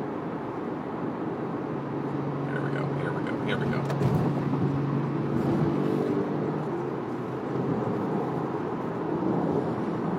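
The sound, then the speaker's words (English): A steady, loud low rumble of traffic and a garbage truck's engine, heard while stuck in traffic behind the garbage truck with a motorcycle alongside, with a man speaking briefly over the noise. “stuck behind a garbage truck.”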